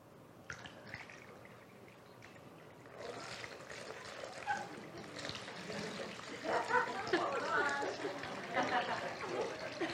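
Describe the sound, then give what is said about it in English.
Liquid is poured into a container, a steady splashing trickle that starts a few seconds in and grows fuller toward the end, with faint voices in the background. “You can just dump that in there. That might be a little sticky, honey.”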